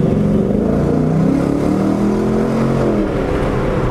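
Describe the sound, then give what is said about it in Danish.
A car engine accelerates at reduced power, without gear changes, with a steady, moderate drone, its low tones rising and shifting in pitch for a few seconds without any voices. “Jeg sætter hastigheden ned og laver endnu en acceleration.”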